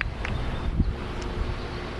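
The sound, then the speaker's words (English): Steady outdoor wind by the edge of a pool rushes and rumbles against the microphone, a continuous low buffeting with faint rustling above it and no voices. “It's windy.”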